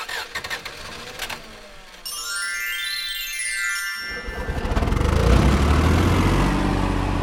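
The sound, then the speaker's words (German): An old tractor engine coughs and sputters, a brief whirring, zig-zagging tone sweeps through, then the engine catches and roars up into a loud, steady rumble as the tractor drives off faster than usual during a hay harvest. “Scheinbar hat sich der Trecker meine Worte tatsächlich zu Herzen genommen.”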